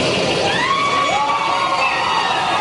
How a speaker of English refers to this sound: The whole community's out cheering and celebrating as they walked out.